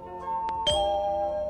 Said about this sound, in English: Remember to turn the page each time you hear the chime.